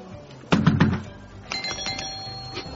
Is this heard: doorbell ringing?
yes